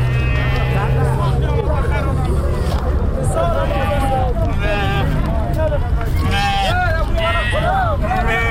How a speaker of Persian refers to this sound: ما هم یکنون با یکی از برادران صحبت داریم که اینا یک تعداد از گوسفندها را در اینجا در منطقه چمند حضوری برای فروش آوردن.